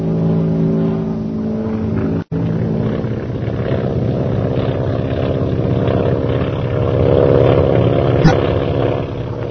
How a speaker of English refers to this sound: All right, Rogers. We'll wait here until the planes are up. Yes, sir. There go the bombers, sir.